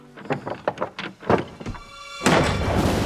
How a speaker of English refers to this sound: The door handle rattles.